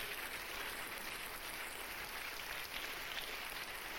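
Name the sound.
audience clapping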